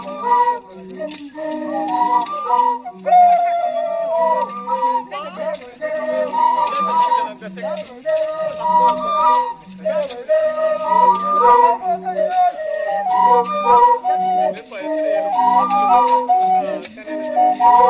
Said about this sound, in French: Alors ces flûtes ou sifflets globulaires sont joués par des hommes debout qui dansent, pas une danse spectaculaire, mais qui bougent en jouant, quoi.